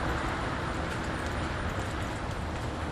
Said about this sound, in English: I mean, right now, in fact, you should hear traffic on my right. There's one coming from back to front, you can probably tell.